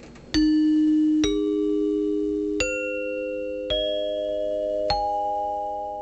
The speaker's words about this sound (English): Chimes in particular would have been an easy choice due to how common they were. Dinner chimes were often used to summon guests to the table, and it was also used to indicate the start and stop of intermission.